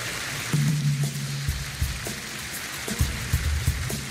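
A crowd applauds steadily, dense overlapping clapping forming a continuous hiss-like wash, with a low sustained tone briefly underneath and a few soft thumps near the end.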